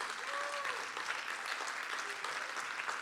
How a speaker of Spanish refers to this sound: ¿Cuántos lo creen? Así que si usted lo cree, déle un fuerte aplauso al Señor.